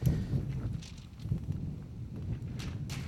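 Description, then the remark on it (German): Steady, blustery rumble of wind buffeting a microphone, with low-frequency gusts swelling and easing throughout and a few faint rustles and hisses on top. “Ich muss nur dem Wind Herr werden.”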